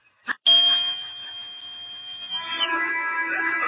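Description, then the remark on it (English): A brief tap, then a long, shrill whistle blast holding one piercing high pitch for about three seconds, with a rougher, noisier edge creeping in toward the end. The whistle is blown as the signal for a broomstick flying lesson. “When I blow my whistle, I want each of you to kick off from the ground hard.”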